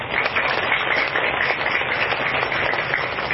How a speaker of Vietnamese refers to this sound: Xin tất cả các quý Phật tử đang có mặt dành một tràng vỗ tay thật lớn.